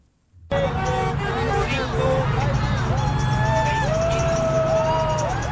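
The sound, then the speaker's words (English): A steady, loud roar of traffic on the 110 freeway in South Los Angeles rushing past below an overpass, with voices from activists of Good Jobs LA waving signs and handing out leaflets on the overpass, and several rising-and-falling whistle-like tones cutting through the noise. “The activist organization Good Jobs LA waved signs and handed out leaflets to passing cars on an overpass of the 110 freeway this morning in support of President Obama's American Jobs Act.”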